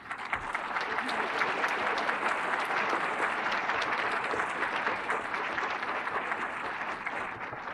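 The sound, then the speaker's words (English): A crowd applauds steadily for several seconds, a dense, even wash of many hands clapping at once, holding at a fairly constant loudness throughout with no voices rising above it. “I see they're clapping, and so that I'm also expressing their feelings.”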